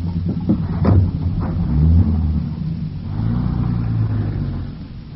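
A taxi's engine rumbles low and steady, revving up briefly as the taxi pulls in, then accelerating away with a continuous droning hum that fades slightly at the end.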